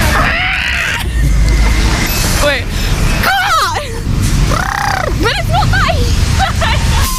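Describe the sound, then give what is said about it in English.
A person, asked what an elephant sounds like, vocally imitates an elephant, producing a series of warbling, swooping squeals and one long arched trumpeting cry over a constant low background rumble. “What does an elephant sound like?”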